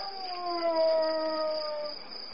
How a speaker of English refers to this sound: It was. It was a wolf.